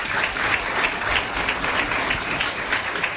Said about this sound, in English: Guys, let's give our panelists a big warm round of applause.